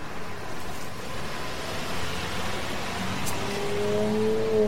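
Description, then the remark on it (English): A car engine roars steadily at speed on a dead-end street by the river, heading toward a wooden fence, a dense rushing drone throughout, with a rising whine near the end as the motor revs harder. No voices are heard. “Slow down. Stop, I tell you. Let me out of this car.”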